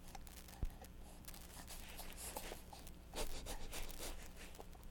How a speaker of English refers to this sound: Oh, your zipper, that's always fun.